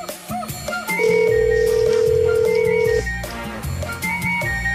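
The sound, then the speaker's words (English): An outgoing call rings on the line: one steady, fairly loud ringback tone lasts about two seconds, with background music playing throughout and no talking. “Let's make a phone call.”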